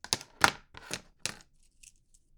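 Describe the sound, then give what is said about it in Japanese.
Felt-tip sign pens brought for signing autographs being picked up and set down: four sharp plastic clacks in the first second and a half, then a few faint light taps, with no talking. “いろいろね、ペン持ってきたんですけどね。”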